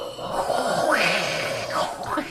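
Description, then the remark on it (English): A person imitates Darth Vader's slow, heavy, rasping breathing, like air hissing through a mask. The sound is steady, with one long drawn breath across the whole stretch and no words. “He's like leaning against the banister, breathing deeply.”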